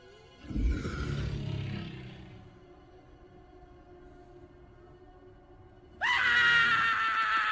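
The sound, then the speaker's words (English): A cartoon hedgehog lets out a loud, shrill, sustained scream as it runs and is chased by a dinosaur, bursting in suddenly near the end, following an earlier rumbling commotion and a quieter stretch. “A hedgehog screams, runs, and is then chased by the dinosaur as all the other animals scatter.”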